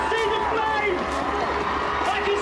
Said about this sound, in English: And I'm sure you can hear here in Darley Park the cheers as the Olympic torch comes into Darley Park.